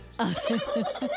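A turkey gobbles in a quick, warbling burst of four repeated throaty pulses, loud, with no talking; turkeys at a market in central Madrid, sold for Christmas Eve dinner.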